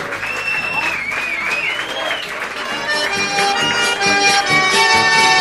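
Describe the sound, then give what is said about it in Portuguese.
A crowd claps steadily for the radio programme Hora do Fazendeiro of Rádio Inconfidência in Belo Horizonte, with dense, crackling applause, while sliding whistles ring out over the first couple of seconds. The clapping swells a little louder toward the end, mixed with cheering voices. “Palmas para a Hora do Fazendeiro!”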